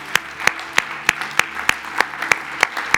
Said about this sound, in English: Hey, why don't we? Sure, let's clap.